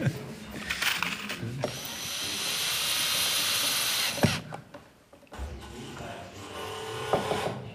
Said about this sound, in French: Et enfin, il faut accéder à nouveau par une porte au local où se trouve le tour à bois électrique aussi. Vous dérangez une nuit, je viens voir écouter le bruit que vous faites de ce côté-ci. C'est le tournage des chevilles.